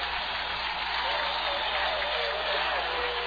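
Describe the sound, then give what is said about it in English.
A large Vikings football crowd comes to its feet late in the third quarter, cheering in a steady, unbroken roar that fills the whole stretch, a dense wash of voices and clapping with no single voice standing out. “This Viking crowd coming to their feet.”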